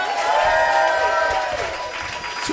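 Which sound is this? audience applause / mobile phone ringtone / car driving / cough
audience applause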